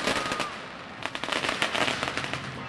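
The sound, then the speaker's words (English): Firecrackers pop in a rapid, dense string of sharp cracks, growing thicker and louder after a brief opening stretch, over a steady outdoor roar at the traditional Chinese New Year street parade in Chinatown, San Francisco, with hundreds of thousands of people lining the streets. “This past February, hundreds of thousands of people lined city streets to watch the traditional Chinese New Year parade, with brightly colored floats, writhing dragons, and firecrackers.”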